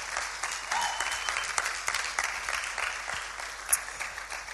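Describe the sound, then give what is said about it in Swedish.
Sustained applause from a crowd for the speaker's mother near the close of the event, a dense, steady patter of many hands clapping for several seconds, with one sharper clap standing out near the end. “Men en stor applåd för min mamma,”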